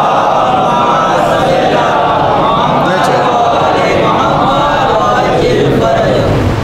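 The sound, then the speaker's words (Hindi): A large crowd recites salawat (blessings on Muhammad and his family) together in one loud, sustained chorus of overlapping voices, a steady murmuring chant that fills the whole stretch without pause or a single lead voice. “सलावत पढ़िए मोहम्मद वाले में।”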